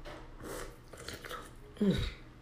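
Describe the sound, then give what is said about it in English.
Sipping hot turmeric tea: soft, airy slurps and wet mouth noises, ending in a louder gulp near the end, with no talking. “Excuse me while I sip on my turmeric tea. It's quite hot.”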